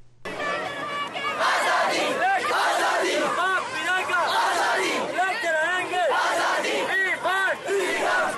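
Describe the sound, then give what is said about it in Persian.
More than 1,000 students marching in Muzaffarabad, Pakistan-administered Kashmir, chant slogans such as "we want freedom" in unison, many voices rising and falling together in loud, continuous rhythmic shouts that last the whole stretch without pause. “اعتراض کنندگان با سر دادن نعره‌های ما آزادی می‌خواهیم نقض حقوق بشری را در کشمیر تحت کنترل هند تقبیح کردند.”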